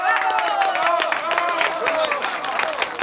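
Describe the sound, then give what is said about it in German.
A circus audience applauds steadily, dense clapping filling the whole stretch at an even loudness, with overlapping voices and high cheers rising and falling through the noise, applauding a man who volunteered to step into the ring. “Während die Menge noch klatscht”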